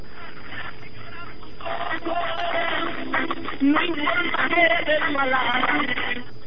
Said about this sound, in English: I don't hear any interference. I just hear a Spanish radio station.